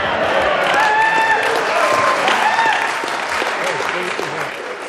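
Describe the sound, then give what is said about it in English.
National Party backbenchers in the New Zealand parliament cheer loudly for Stephen Joyce: a dense roar of many raised voices mixed with clapping that holds steady for several seconds before easing off slightly at the end. “Stephen Joyce there giving National backbenchers something to cheer about at last,”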